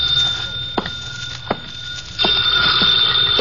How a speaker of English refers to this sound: I sat down to wait for him, and the phone started ringing.